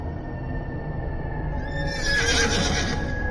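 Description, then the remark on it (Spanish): A horse neighs loudly as horses are being cleaned, its whinny swelling to a shrill peak midway, while hooves clip-clop steadily underneath on a hard surface. No one speaks. “Una mañana, mientras limpiaba los caballos, Ilín le comentó a otro siervo llamado Martinov el plan que tenía en la cabeza.”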